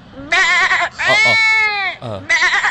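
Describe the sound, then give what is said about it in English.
A person imitates a lamb with the mouth, making three quavering, high-pitched bleats, the middle one longest and rising then falling, each separated by short pauses, loud and alone without other talk. “Dis nie 'n small puppy. Dis 'n fucking skapie.”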